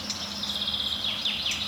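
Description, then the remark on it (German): Short, repeated alarm calls of an agitated garden warbler, upset because a red-backed shrike is nearby, a few quick downward-sweeping notes over a steady high insect-like hiss with no voices. “Das klingt eher nach Gartengrasmücke, die sauer ist, weil Neuntöter in der Nähe ist.”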